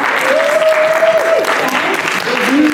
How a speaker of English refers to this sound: Do you want to give a round of applause?